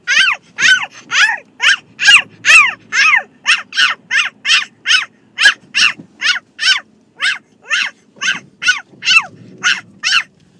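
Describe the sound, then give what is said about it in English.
A girl imitates a Coton de Tulear, a small fluffy dog, letting out a long run of rapid, high-pitched yaps in a steady, insistent rhythm, about two dozen in ten seconds, loud and without pause. “That is my daughter pretending to be a Cotton de Tulier.”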